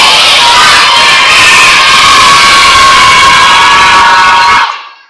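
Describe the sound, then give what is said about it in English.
A large group of junior-age children shouts a "good evening" greeting to a pastor together in one loud, sustained burst lasting several seconds, a crowded roar of young voices that cuts off sharply at the end. “Let's see if we can see how loud you are.”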